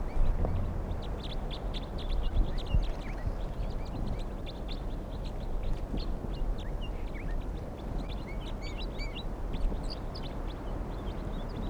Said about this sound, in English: whole flock of about, let's see, 2, 4, 6, 8, 10, about 20 crossbills are here, and some are getting caught now.